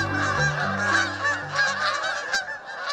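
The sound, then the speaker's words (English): A flock of geese honking continuously, many overlapping calls forming a dense, raucous chorus with a low drone underneath. “In the interior of North America, flocks of Canada geese might also have another species called cackling geese mixed in.”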